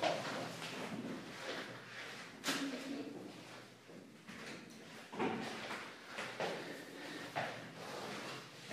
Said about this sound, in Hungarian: Hát, most már becsukom az ajtót.